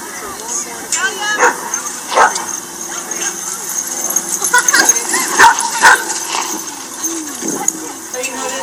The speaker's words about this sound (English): So you will get social facilitation almost any place that you see a bunch of dogs getting together. And this is a dog park.